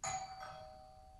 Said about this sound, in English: It all begins quite simply with the ring of an ordinary doorbell.